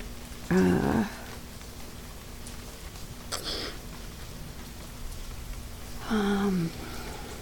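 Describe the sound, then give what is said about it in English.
Steady rain hisses outside without letup, a soft continuous patter that fills the background, broken only by two brief whining cries near the start and end. “There's no way I'm going out there and putting a tent up in this rain.”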